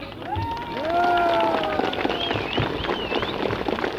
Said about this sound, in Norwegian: Nå har … spilt fire ekstra nummer, det er verdt applaus.